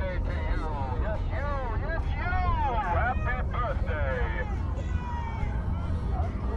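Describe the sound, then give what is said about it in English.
The Fun Cult festival art car, lit up like a birthday cake, rolls by at about 7 miles an hour, its engine rumbling low and steady beneath swooping, warbling tones, with crowd chatter mixed in throughout. “There's an art car that's about to hit us.”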